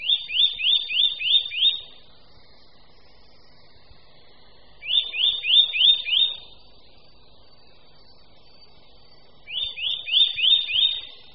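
A Eurasian nuthatch calls in three loud bursts, each a quick run of six or seven high, clear whistled notes, separated by pauses of a few seconds over a quiet background.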